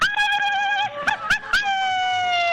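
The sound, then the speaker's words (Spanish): A single voice lets out a long, high-pitched Mexican-style grito, sustained and loud, with quick yodel-like breaks in the middle before trailing off on a held note. “que me haga un gritito de estos mexicanos”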